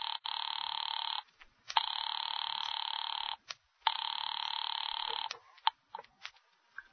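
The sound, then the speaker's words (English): A telephone line rings while calling an office, in three long, steady electronic bursts separated by short pauses, loud, followed by a few faint clicks and ticks. “Ringing Murray Hill 40098.”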